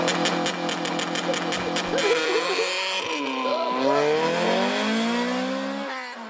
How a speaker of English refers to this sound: And just for comparison, here is the real launch control, and I can't tell the difference.